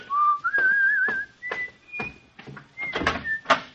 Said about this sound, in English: I even began to whistle as I walked the two blocks to the precinct station.